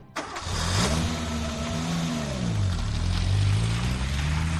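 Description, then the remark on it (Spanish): A car engine turns over and catches abruptly at about 21:40 as four people set off home, then runs with a steady rumble, its pitch rising and dipping as it revs. Fairly loud, with no voices. “Luego, sobre las 21:40, los cuatro montaron en el vehículo de camino a casa.”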